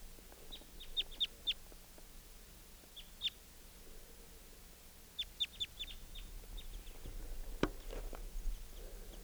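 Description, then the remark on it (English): A male bird gives short chittering notes in quick clusters, a few rapid chips at a time separated by pauses, fairly clear over a low outdoor background hum. “Gave a chitter note.”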